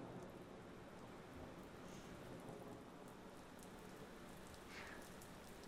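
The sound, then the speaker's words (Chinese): Steady rain patters on a hard surface, a dense, even hiss with scattered drops, constant, no voices. “我其实还是很喜欢雨声的，它能让我安静下来。”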